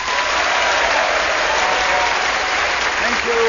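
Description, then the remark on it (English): The audience of a Just a Minute recording at the City of Varieties applauds steadily for a few seconds to welcome panellists Tony Hawks, Sue Perkins, Tim Rice and Ross Noble, a dense, even wash of many hands clapping at constant loudness, with a faint voice or cheer rising briefly near the end. “Will you please welcome all four of them?”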